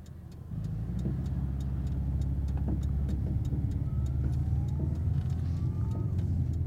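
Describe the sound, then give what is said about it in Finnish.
A car engine starts up after a brief moment and keeps running at a steady idle, a low rumbling drone with a faint, regular ticking clatter on top. “Että tämän auton saa vähäksi aikaa tähän jättää.”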